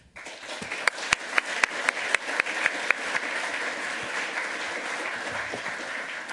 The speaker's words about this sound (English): And just one more round of applause for him being really good and recovering because of our mutual mess up.